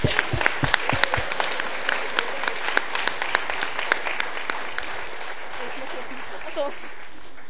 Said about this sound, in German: Ja, wir dachten, das wäre ganz angebracht mal, weil ihr so viel für uns getan habt und mit uns zusammen da durchgegangen seid durch die Zeit. Da dachten wir, einen Applaus mal bitte an die Mitarbeiter.